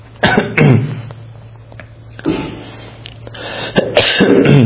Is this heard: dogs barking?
no